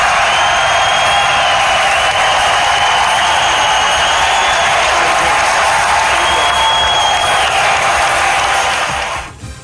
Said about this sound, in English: I got chills, dude. When they were playing the Rocky and the crowd's roaring, and it was wild. That was incredible, man.